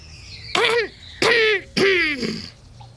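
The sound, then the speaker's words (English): Three short, deliberate coughs in a row, evenly spaced, each a raspy burst with a voiced edge, like someone politely trying to get attention. “I coughed. Again.”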